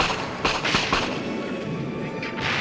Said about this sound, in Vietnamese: Pháo binh vẫn tiếp tục bắn, nhưng đã chuyển xạ xa dần theo nhịp độ tiến quân.